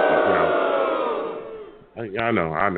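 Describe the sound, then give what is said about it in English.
A crowd boos loudly at a pick of the Chargers to beat the Jets 24-10, a sustained, droning roar that fades over about two seconds, then a man starts speaking. “I knew I was going to get booed by the people.”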